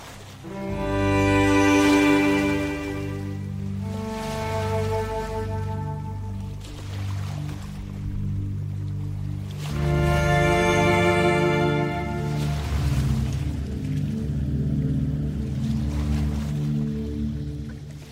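Slow, calm instrumental music plays alone as the backing for a poetry recital: long sustained melodic tones swell and fade in broad phrases over a steady low bass drone, with a soft, watery ambient texture throughout.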